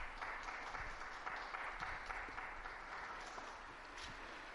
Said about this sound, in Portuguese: Esses dois jovens coreanos tomaram hoje a cruz da JMJ, que será em Seul, e vão levá-lo à Coreia para preparar a jornada. Um aplauso aos coreanos.